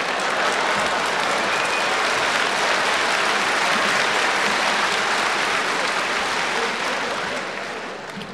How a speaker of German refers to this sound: Bitte klatschen nicht so heftig, sonst kommt die ganze schlechte Luft hierher.